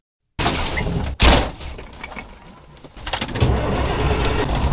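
A heavy red 18-wheeler semi-truck engine rumbles on the side of a back road in Asheboro, with a sharp door slam near the start as a driver climbs into the driver's seat, then the engine settles before revving louder toward the end. No one speaks.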